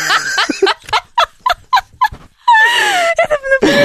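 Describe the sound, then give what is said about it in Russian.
A male dog whines and whimpers in a quick series of short, high yelps, then gives a longer, wavering drawn-out whine, loud, with no talking over it. “Вот, у вас собака, а у нас строители под окнами, все хорошо.”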